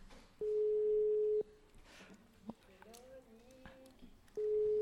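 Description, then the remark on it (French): A radio show's outgoing call to a listener ringing on the line, left to ring a long time: a steady mid-pitched ring tone lasting about a second, a long pause with faint voices murmuring, then the tone starting again. “Il faut laisser sonner longtemps, c'est normal.”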